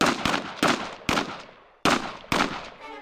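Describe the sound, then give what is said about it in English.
Six loud gunshots ring out at 8:45 p.m. in the Piazza Marina, fired in an attack on a man crossing the piazza, at uneven intervals over about three seconds, each sharp crack trailing off in a reverberant echo, with no voices. “At 8:45 p.m., 6 gunshots split the air in the Piazza Marina.”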